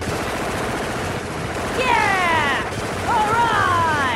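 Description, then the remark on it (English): Continuous, dense burst of rapid gunfire as several people shoot at attacking drones, loud and chaotic, with high descending whistling tones sweeping over it twice. “Everybody else, take some guns. Start shooting.”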